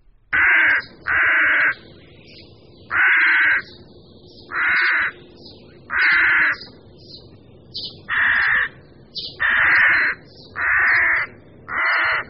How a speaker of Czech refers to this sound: Tyto hlasové projevy byly natočeny v hnízdní kolonii havranů polních.